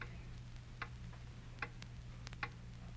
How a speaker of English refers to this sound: Hear that clock?